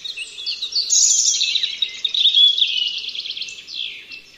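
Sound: european robin song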